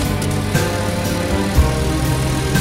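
A motorcycle engine runs steadily, a continuous loud rumble with a throbbing low drone and a few brief surges, with no voices.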